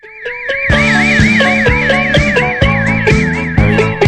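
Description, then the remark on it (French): A high, rapidly warbling alarm tone at the start of a song wavers steadily through the whole clip, joined after a moment by the song with a pulsing beat and bright chords underneath. “Je sais pas pourquoi il y a cette alarme au début.”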